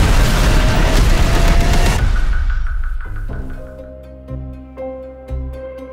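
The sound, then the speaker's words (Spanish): A loud, roaring explosion fills the first couple of seconds, then rumbles away as deep, booming musical notes strike in slow succession. No one speaks. “Si saltas muy rápido, quizás sobrevivas a la explosión.”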